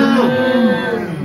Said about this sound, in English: What's up with the goat sounds? Yeah. What's up with the cattle noises I'm hearing?